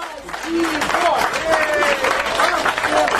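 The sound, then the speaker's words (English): Supporters of a freelance reporter applauding and cheering at her court verdict in western Russia, dense steady clapping spread across the whole clip with raised voices and rising shouts woven through it, loud and sustained throughout. “it sounds like they're all cheering for a guilty sentence.”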